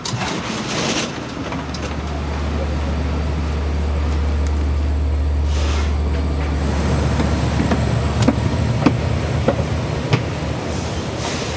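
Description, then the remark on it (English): A steady low rumble fills the interior of a moving two-story commuter train with high head rests and a bathroom, boarded after a transfer at Babylon, with rhythmic clicks and rattles from the wheels on the track and a faint hiss overhead, with no talking. “We just got onto a fancier train with higher head rests and two stories and a bathroom.”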